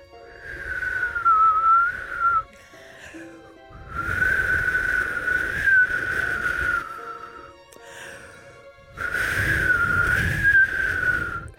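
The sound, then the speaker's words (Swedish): A person whistles an imitation of blue tit birdsong in three long, wavering phrases of high, slightly warbling tone, each followed by an audible breathy intake, with no talking. “Och ni som lyssnar där ute som är fågelskådare, ni vet ju att det här är en blandning av... Astma Riksorganisationens ordförande och en blåmes.”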